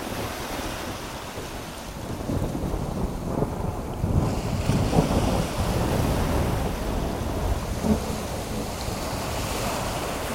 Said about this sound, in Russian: Неожиданно разразилась страшная буря. Море как будто закипело. Громадные волны с чудовищной силой набрасывались на корабль и яростно сметали с палубы все подряд.